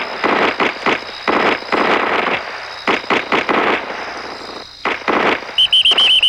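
Loud bursts of rapid gunfire crackle in irregular clusters with short pauses between them, and a few high electronic beeps sound near the end. No one speaks.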